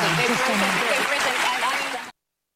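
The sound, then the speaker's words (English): A crowd claps and cheers in a dense, steady wash of applause with shouting voices mixed in, lasting about two seconds before cutting off abruptly. “And it's an applause line.”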